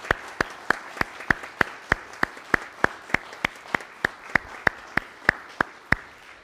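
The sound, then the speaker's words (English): Steady, evenly paced hand clapping from an audience at a worship service after a musical performance, around two dozen crisp claps at a brisk regular rhythm, fairly quiet, with no voices over it. “And while we do not typically clap after musical performance, I think it would be appropriate to say, folks, we really appreciated that.”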